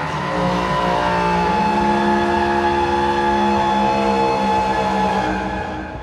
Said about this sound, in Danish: Ja, som I kan høre, der blev blæst i hornet, og de her bølger strøg ud i stemmernes sø.